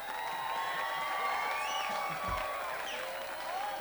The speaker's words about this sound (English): And not to be overdone, but all the people that work at this festival, this is a wonderful occasion. We get to be here. And they deserve a nice round of applause from y'all.